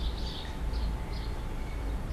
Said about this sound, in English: The birds are not part of the same soundscape. I placed them there where you heard the sound of the opening window.